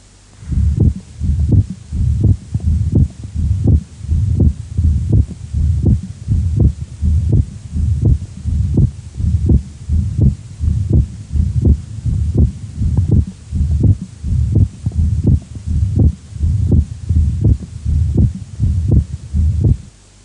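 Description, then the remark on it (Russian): Steady heartbeat through a stethoscope over the pulmonary artery of a patient with mitral valve disease, with an accented, split second heart sound. Low, thudding beats repeat evenly at a moderate pace, clear, with no talking. “Прослушайте акцент и расщепление второго тона на легочной артерии у другого больного с митральным пороком сердца.”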